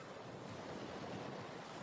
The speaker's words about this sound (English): Feel the tips of your toes being tickled by the water as the waves come creeping in. Can you hear the sounds of the waves?